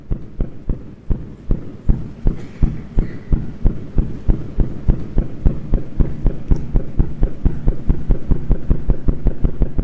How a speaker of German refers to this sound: Projekt LIGO erstmals in der Geschichte Gravitationswellen aufzuzeichnen und akustisch nachvollziehbar zu machen. Bisher hatte man sie nur theoretisch angenommen. Das große kosmische Rauschen hat endlich Gehör gefunden auf dem Planeten Erde.